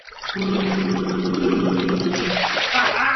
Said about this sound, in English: Blowing bubbles in the bath can be, well, fun.